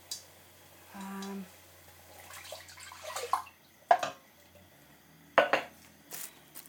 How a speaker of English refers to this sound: So it is time to add the coconut milk.